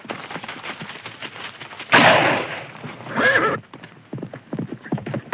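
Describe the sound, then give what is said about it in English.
A horse gallops with steady hoofbeats as its rider flees Tombstone, broken by a loud, sharp gunshot about two seconds in, fired by the rider back into the darkness, and a second burst a moment later, before the hooves carry on. “He stops his horse and turns back to fire a shot into the darkness.”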